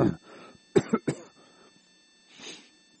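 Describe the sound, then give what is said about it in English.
A speaker with a frog in the throat gives a harsh cough, followed by three quick, sharp coughs in a tight cluster, then a softer, breathy throat clearing after a short pause. No one speaks. “Seems like I got a frog in my throat or something.”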